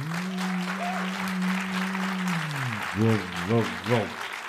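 An audience applauds with steady, dense clapping throughout, while a held low hum gives way to three short, swelling tonal bursts near the end.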